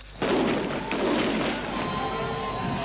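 An improvised bomb explodes near a convoy in a military training demonstration in a mock Afghan village at the new Dörgicse military base in the Bakony, Hungary: a sudden loud blast, a sustained roaring rumble and a second sharp crack, the noise lingering to the end with no voices.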